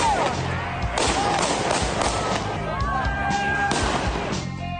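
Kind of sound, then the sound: impact, gunshots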